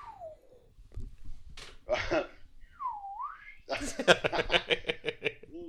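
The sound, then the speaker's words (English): Someone imitates a slide whistle, whistling a short falling glide and then a swooping down-and-up tone, followed by a burst of choppy laughter. “So in this movie, to get the narrator, you have to do a slide whistle.”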